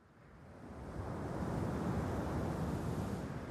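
Wind freshens and blows steadily over a calm, cool open sea, a broad rushing hiss with soft surf underneath that swells during the first second and then holds constant. No voices are present.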